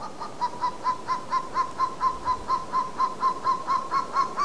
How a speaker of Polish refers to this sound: Orzeł przedni. Uważa się, że to właśnie on widnieje w naszym godle.